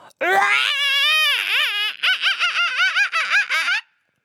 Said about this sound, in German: Balle deine Hände zu kleinen Fäusten und trommel mal auf deiner Brust. Dabei schreien wir alle zusammen ganz laut. Und nochmal so laut du kannst.